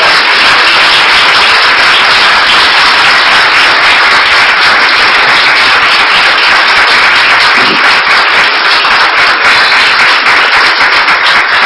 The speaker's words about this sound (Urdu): Hallelujah, آئیں خدا کے بیٹے کے لیے زوردار تالیاں بجائیں.